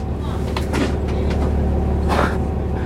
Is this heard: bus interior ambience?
yes